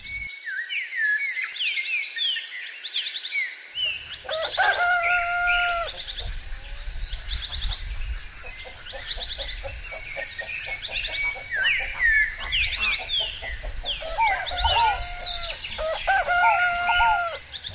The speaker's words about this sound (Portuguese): Nos meus retiros mais naturais, amanhecem certas coisas ancestrais, como os galos em incessantes cocorocós,